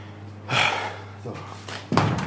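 A door swings and shuts: a soft whoosh of movement, then a firm thud as it closes, with a faint hum underneath.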